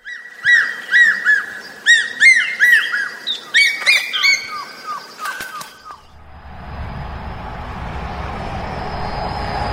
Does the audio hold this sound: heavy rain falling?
no